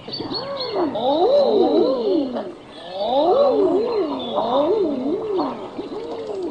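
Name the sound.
common eider duck calls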